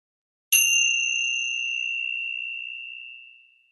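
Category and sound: signal or alarm, meditation bell being rung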